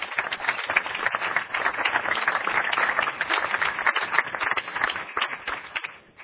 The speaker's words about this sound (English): So let's give them all a big round of applause for being here.